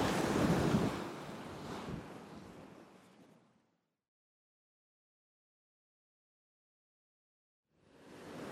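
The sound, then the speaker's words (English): Ocean waves break against a rocky outcrop out in the ocean, a loud rushing wash that slowly recedes into silence before the next surge starts building at the end, with wind noise and no voices. “I'm out on a rock outcropping now, out in the ocean.”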